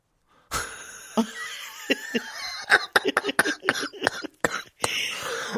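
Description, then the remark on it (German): A run of sharp coughs comes in a rapid, uneven burst, several harsh bursts back to back with raspy, breathy tails between them, loud. “Jetzt hust ich schon wieder, siehst du?”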